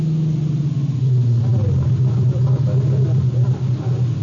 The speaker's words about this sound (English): It was a little past 9 when I pulled up in front of the bar.